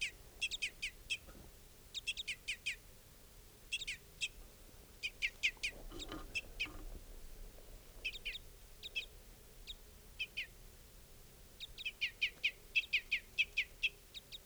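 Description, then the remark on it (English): An adult type 5 bird, which looks like a female, calls over and over in camp in quick clusters of short, high chip notes, clear and fairly loud against a low steady background hum, with no voices present. “Adult's also calling now.”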